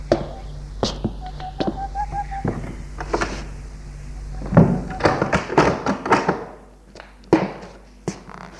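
A French window is pulled shut as a man steps in from a balcony, with a series of soft knocks, taps and a dull thud as the frame meets the latch, followed by scattered light clicks and footsteps.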